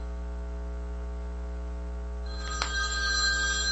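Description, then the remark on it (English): A telephone starts ringing partway through, a bright electronic trill with a sharp click at its start, over a steady low mains hum. Nobody speaks. “And another idiot calling me on the telephone.”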